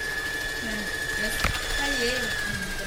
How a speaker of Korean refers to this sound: 재봉틀이 바쁘게 돌아가고 집안을 꾸미는 다양한 생활용품 만드는 것을 가르치는 홈패션 학원입니다.